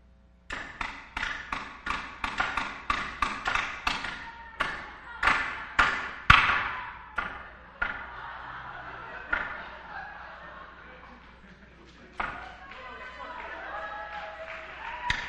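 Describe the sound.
A hammer pounds a 2-inch nail in a fast, steady run of sharp, loud strikes for several seconds as people race to see who pounds the nail in first, then the blows slow and thin out to a few scattered hits while voices murmur underneath.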